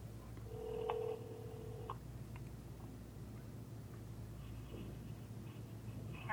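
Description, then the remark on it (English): A cell phone call being placed to continue a meeting: a steady electronic tone, then short beeping dial tones and faint connection sounds over a low background hum. Nobody speaks. “As long as you can hear us, we're going to continue with the meeting on this cell phone”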